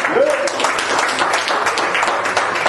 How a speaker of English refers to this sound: I wish somebody clap their hands.